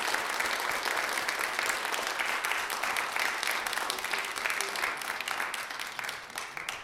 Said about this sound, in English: Friends, we just pause a moment for some announcements and maybe a round of applause for our musicians. A big thank you for being here.